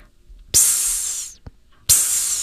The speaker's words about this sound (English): Finally, when the steam hisses, make your own hissing sound in time with the music.